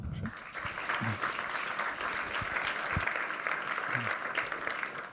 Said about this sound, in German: Herzlichen Applaus.